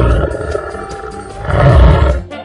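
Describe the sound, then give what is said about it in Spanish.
A tiger roars loudly, a deep rumbling growl that holds steady and then swells into a stronger roar before cutting off. No one speaks. “En los Estados Unidos de Norteamérica hay más de 12.000 tigres en cautiverio.”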